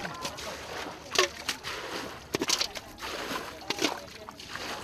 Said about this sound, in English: People everywhere are soaked, walking through water sometimes as high as their waists to fetch firewood or visit the surprisingly vibrant market. Few people have boots, and children splash barefoot through the polluted muck.